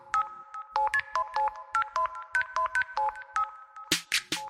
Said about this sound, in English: That's when the phone rang.